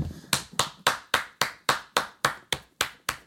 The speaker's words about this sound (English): Yo, first of all, I have to give her a round of applause, y'all.